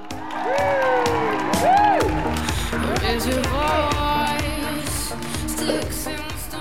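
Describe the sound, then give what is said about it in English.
A studio audience cheers and applauds loudly and continuously as guests including Jodie Marsh are welcomed, with high rising whoops and shouts cutting through the dense wash of clapping. “How beautiful are the crowd?”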